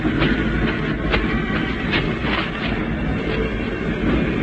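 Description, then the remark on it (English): A train at a station gives a steady, heavy rumble, loud, with faint metallic clatters rising now and then over the continuous roar. No voices are heard. “I just took my suitcases and walked to the train.”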